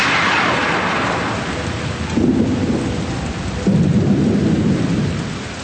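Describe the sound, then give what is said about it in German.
Steady rain hisses throughout while thunder rumbles low, with two heavier rolling booms swelling in partway through. No voices, just a loud thunderstorm with lightning starting, on a mountain. “Wir müssen schnell runter vom Berg. Es fängt schon an zu blitzen.”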